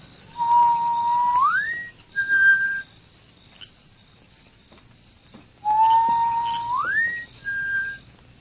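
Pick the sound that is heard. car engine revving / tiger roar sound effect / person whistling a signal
person whistling a signal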